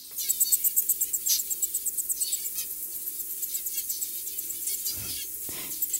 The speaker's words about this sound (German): Zebrafinken singen für ihre Embryos, wenn die noch im Ei sind, um sie auf die Welt vorzubereiten. Und das klingt dann so.